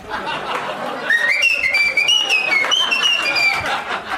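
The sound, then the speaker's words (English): Someone whistles a short, wavering melody of several sustained notes, clear, over a bed of background chatter and a few chuckles. “Usually someone has to mention whistling or Bane to start that shit up.”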